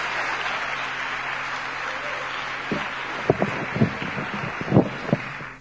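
A morning audience applauds to welcome a preacher coming up to speak, a steady, dense wash of clapping, with several sharper, louder claps standing out toward the end before it fades. No one speaks.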